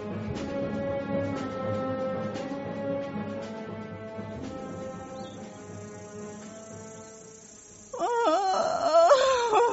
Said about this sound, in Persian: گریه نکن مادر، من چند کلم قمری بداشتم.